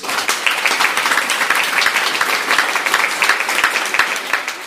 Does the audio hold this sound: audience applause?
yes